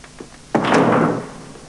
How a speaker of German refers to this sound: Schließen Sie die Tür, bitte.